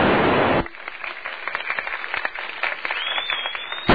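Applause from a group of assistants during an amateur radio contact with the space station NA1SS, a dense patter of many hands clapping at once, heard thin and band-limited over the radio link, following a short burst of static hiss.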